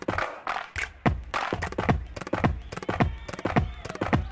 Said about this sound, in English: And this beat here is made from some Welsh mountain slates smashed at the top of a mountain.